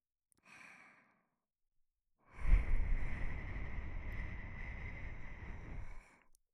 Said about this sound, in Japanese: 吐息を吹きかけられたり